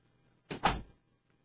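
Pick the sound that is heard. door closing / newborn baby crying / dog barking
door closing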